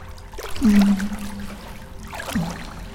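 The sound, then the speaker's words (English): Water trickles and splashes in a steady, gentle flow running over a person's body, with a soft low hum underneath and a couple of brief louder swishes. “The water feels so good. I love the feel of it running all over my body.”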